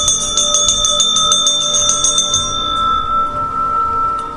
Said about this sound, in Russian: И сегодняшнюю нашу встречу я открываю звоном очень древнего-древнего Борисского колокольчика. Ему даже микрофон не требуется.